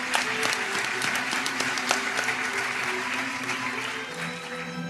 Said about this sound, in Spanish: La secretaria irá nombrando a esos premios extraordinarios de doctorado y cada uno de ellos va a subir hasta el escenario en el que el rector les va a entregar ese diploma como premio extraordinario de doctorado con el aplauso correspondiente.